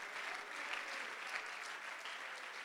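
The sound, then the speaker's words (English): Sustained applause from a church audience clapping to give God thanks, a dense, steady wash of many hands clapping at once with no pauses, moderately loud throughout. “Woo, somebody ought to just clap your hands and you ought to just give God thanks for that promise.”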